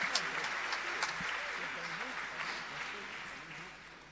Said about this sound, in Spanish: Todos de pie aplaudiéndola.